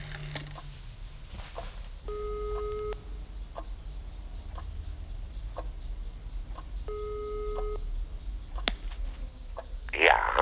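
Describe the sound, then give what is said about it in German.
A mobile phone's ringback tone as Mr. Peck calls the head of a retirement home on his mobile from Dr. Burke's office, purring twice, each burst about a second long and spaced several seconds apart, fairly soft over a low steady hum with faint scattered clicks. “Von dort aus rief Mr. Peck den Leiter der Seniorenresidenz auf seinem Handy an.”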